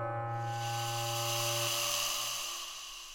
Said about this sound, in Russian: Наконец он выбился из сил и уполз обратно в лес, шипя и разбрасывая хвостом сухие листья.